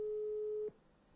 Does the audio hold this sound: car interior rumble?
no